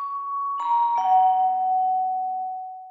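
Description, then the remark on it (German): A doorbell chimes with a sustained tone and two quick tone changes, a clear ding-dong that rings out and slowly fades, heard alone without talking. “Also wir hatten gerade eine ganz kleine Unterbrechung, weil die Tür geklingelt hat.”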